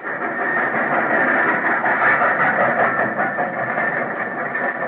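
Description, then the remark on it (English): A steady, unbroken rumble of a passenger train in motion in Formosa, bound for Takao and heading toward Shinchiku, loud and even throughout, with a dense mechanical roar and faint rhythmic clatter underneath, and no voices. “When the train stopped at Chinchiku, I picked up my bag and headed for the door.”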